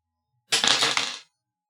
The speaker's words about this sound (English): Roll that dice.